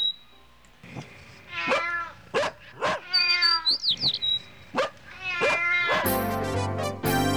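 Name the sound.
cat meowing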